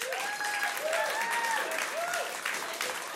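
An audience claps steadily and loudly for a man from the audience, a dense wash of hand claps, with a few rising and falling whoops or cheers riding over the applause.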